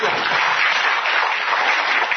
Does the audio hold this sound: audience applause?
yes